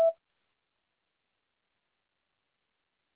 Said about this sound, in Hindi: Is not available at the tone. Please record your message. When you have finished recording you may hang up.